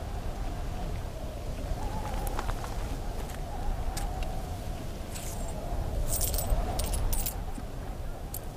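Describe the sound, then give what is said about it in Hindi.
Eighteen metal dirham coins clink and jingle repeatedly as they are handled and counted, bright irregular chinks over a steady low rumble, growing busier toward the end. “18 सिक्के हैं।”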